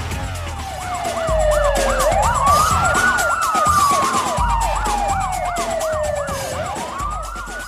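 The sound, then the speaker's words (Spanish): A car with a wailing, rapidly sweeping siren approaches, growing loud within the first couple of seconds, with road rumble underneath and no voices. “por ahí viene un carro.”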